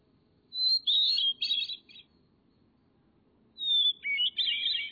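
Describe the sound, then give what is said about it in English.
A hermit thrush sings two clear, distinct, flute-like phrases, each opening on a pure held note before breaking into quick shimmering trills, separated by a pause of silence. “Its song has been described as ethereal, serene, or flute-like.”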